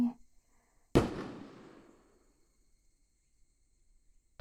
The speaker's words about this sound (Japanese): すご、あれカラフルだね。はあ、でっか。音すんごいね。花火職人さんってさ、一年のこのためにどれくらい修行するんだろうね。